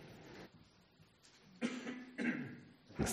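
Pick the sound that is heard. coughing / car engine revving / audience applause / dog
coughing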